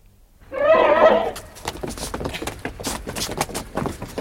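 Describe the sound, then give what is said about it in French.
A horse gives a loud, quavering whinny lasting about a second, followed by a steady run of sharp hoof clops on a hard surface that continue to the end. “Il m'a prié de tenir son cheval.”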